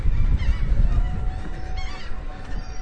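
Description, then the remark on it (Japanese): Seagulls call repeatedly in harsh, honking cries at a seaside amusement area where only a few attractions are running, over a steady low rumble of outdoor wind or traffic, the birds fairly loud, with no one speaking. “営業してるのはカモメだけだ。”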